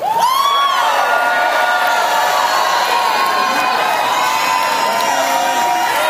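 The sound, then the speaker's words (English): A large audience shouts and cheers loudly all at once, voices overlapping in a sustained roar of praise with high whoops rising above the crowd for several seconds. “Sounds like some of you got some weapons.”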